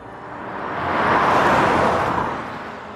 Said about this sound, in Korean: 드디어 차소리가 들리더니 1118번 남조로가 나왔다.